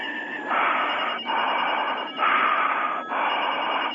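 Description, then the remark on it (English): A telephone rings with a harsh, buzzy electronic tone, sounding in several loud, sustained bursts broken by brief gaps. No one speaks. “You heard the phone ring.”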